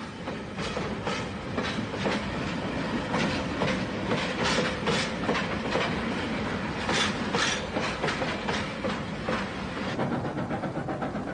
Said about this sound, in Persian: قطار در مسیر خود از صحرای گوبی به طرف کوهستان تیانشان می رفت که با قله هایی به ارتفاع بیش از 4000 متر سر برافراشته بود. به آرامی و یک نواخت صعود می کردیم.